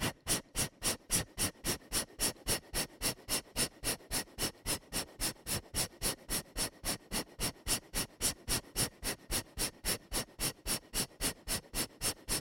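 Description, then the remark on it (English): Rapid, rhythmic belly breathing in a breathing exercise class, inhaling and exhaling with only the belly moving: short, forceful breaths pumped out about three times a second in a steady, even train, each a sharp breathy puff, with no talking. “Exhale, breathing. We'll do it a little faster. Only the belly moves.”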